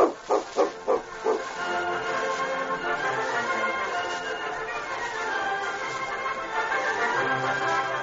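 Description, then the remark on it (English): A dog barks four times in quick succession, then the sound shifts into a continuous, busy growling and snarling mix that carries on to the end; the dog is guarding a man in a radio drama. “You won't get far with that dog watching you.”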